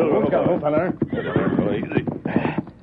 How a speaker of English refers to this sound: Early the next morning in Red Rock Canyon near Clemens and Buena Vista, the Lone Ranger and Tonto pulled their horses to a halt.